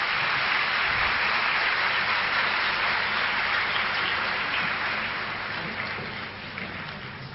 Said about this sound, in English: So you should clap now, yes.